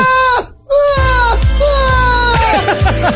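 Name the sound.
child crying sound effect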